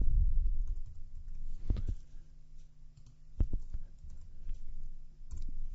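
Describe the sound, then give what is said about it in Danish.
Soft typing on a computer keyboard in short irregular bursts, with a few sharper clicks standing out over a low steady hum; moderately quiet, no voices. “Så sætter jeg lige de her ting ind.”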